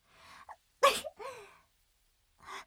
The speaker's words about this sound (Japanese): すいません、ちょっとくしゃみが。やっぱりまだ夜だと少し冷えますね。